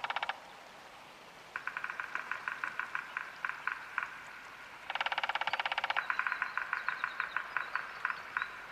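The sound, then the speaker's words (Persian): A woodpecker drums in rapid rattling bursts, each a quick train of sharp, evenly spaced taps, repeated several times with short pauses between, fairly loud over a quiet background with no talking. “ای صدای دارکوبی دیگه.”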